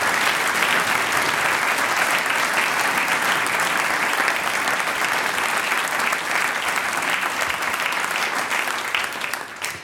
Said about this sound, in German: Das ist dein, das ist euer Applaus.